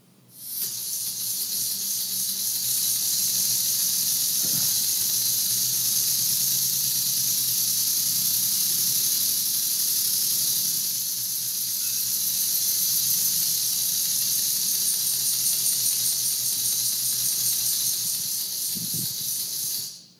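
A pneumatic V6 engine runs steadily, a loud continuous hiss of escaping air over a low mechanical chatter, with a couple of brief thumps and no talking.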